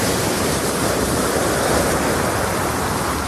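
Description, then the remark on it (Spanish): A steady, broad roar of sea waves washes continuously along the seafront promenade of La Coruña, over 15 kilometres long, at 5:06, a dense hiss of surf with no clear breaks between waves and no voices. “a esta hora, a las 5:06, estamos en La Coruña, en el segundo paseo marítimo más largo de Europa.”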